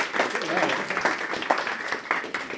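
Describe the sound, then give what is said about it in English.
A small audience claps steadily for a few seconds, a dense patter of hands with a few voices mixed in under the applause, applauding a volunteer who correctly identified a toy car by touch. “Round of applause.”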